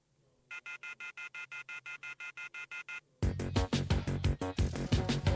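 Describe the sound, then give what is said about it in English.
A telephone rings with a rapid, evenly pulsed electronic trill for a couple of seconds, fairly clear, before loud band music abruptly cuts in. “The telephone keeps ringing, so I ripped it off the wall.”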